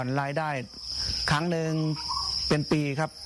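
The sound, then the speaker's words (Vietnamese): Crickets raised for harvest on a cricket farm chirp in a steady, unbroken high-pitched trill that runs through the whole moment, fairly loud, while a person talks over it. “Giờ chúng tôi có thể thu hoạch dế 2 tháng một lần, nên một năm được 6 lần.”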